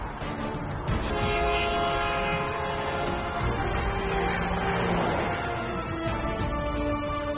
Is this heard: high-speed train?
yes